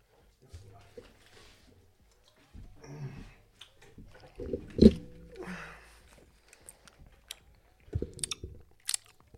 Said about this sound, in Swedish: Fan, man ska aldrig tugga godis i micken. Det låter så jävla äckligt, men satan så gött med frukosten.